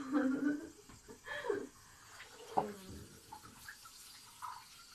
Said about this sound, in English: So I'm in my bathtub with my shower massage. And I guess we'll see how well this records.